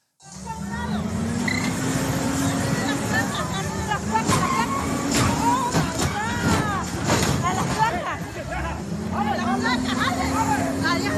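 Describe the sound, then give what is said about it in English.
A dump truck's heavy engine drones steadily while loud metallic crashes and bangs break out repeatedly as the truck crashes around, with voices shouting and talking over the chaotic racket throughout. “Next clip, the dump truck crashing around.”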